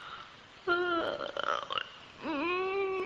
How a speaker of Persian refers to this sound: خمیازه کشیدن در حضرت سلطان از نزاکت به دوره، این کارو برات قدغن میکنیم. نمیتونم جلو خودم بگیرم، از روی خیلی دوری اومدم، هیچ نخوابیدم.